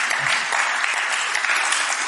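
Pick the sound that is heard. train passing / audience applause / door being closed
audience applause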